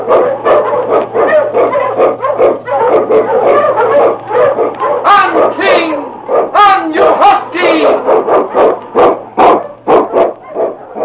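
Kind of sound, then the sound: animal, sled dogs barking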